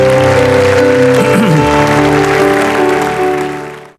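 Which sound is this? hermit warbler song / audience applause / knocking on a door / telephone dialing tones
audience applause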